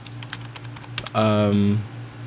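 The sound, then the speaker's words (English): Quick, light typing on a computer keyboard while trying to connect to Wi-Fi: a run of crisp clicks and taps over a steady low hum, then a voice briefly starts speaking over the keys. “You can hear me typing.”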